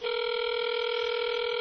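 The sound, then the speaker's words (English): A steady electronic telephone ringback tone hums continuously, the sound of an outgoing call waiting to be answered, clear and even with no voices. “Well, we have a ringtone,”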